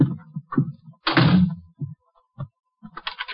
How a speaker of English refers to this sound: I'm locking the door. I don't want anyone coming in.